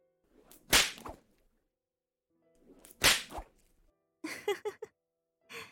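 whip lashing

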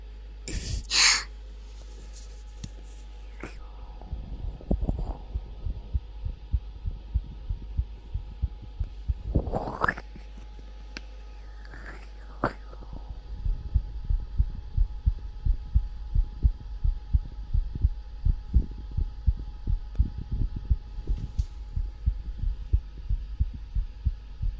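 heartbeat

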